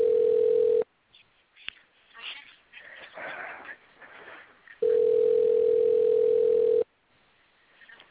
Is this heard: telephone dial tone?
yes